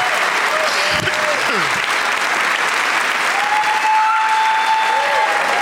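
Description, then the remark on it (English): An audience at the Woman's Club claps steadily for the show's guests, a dense, loud wash of applause that holds throughout, with a few whistles rising and falling over the top. “One more time for all of my guests.”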